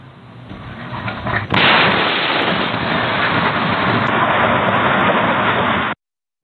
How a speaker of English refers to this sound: At least a dozen other homes were damaged by the debris, and Ring doorbell video from a few doors down captured the moment of the explosion.